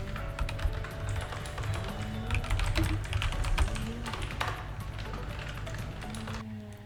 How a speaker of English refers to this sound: Oh, it's a chainsaw, okay. Like, what the fuck is that noise? They're cutting down the tree in my yard because it's dead. Oh. And it's leaning at a very dangerous angle, and it could fall on someone's house if it's picking up.